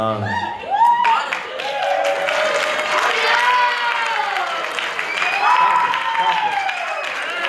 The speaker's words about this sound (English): I don't know if I deserve that much of an applause.